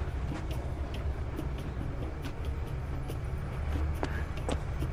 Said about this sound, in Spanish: Ven, se detuvo un auto.